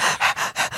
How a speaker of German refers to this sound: Gina Lisa und 2 kleine Hunde liegen, sitzen, schnaufen auf ihr drauf. Also alles, was ihr jetzt hört, ist nicht Gina Lisa, die grunzt.